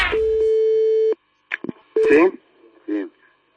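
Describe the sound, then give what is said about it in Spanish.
A loud, steady telephone call tone from two phones ringing at once, one calling Vicente del Bosque and the other Jorge Valdano, holds for about a second, then cuts off, followed by a few short bursts of voices speaking over the crossed line. “Con un teléfono llamamos a Del Bosque, con el otro a Valdano, sonan los teléfonos a la vez y se entrecruzaron así.”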